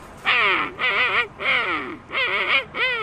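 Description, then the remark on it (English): A person imitates a king penguin call with four loud, warbling trumpet-like bursts, each rising and falling in pitch, separated by short pauses and heard without other talk. “And next, the king penguin.”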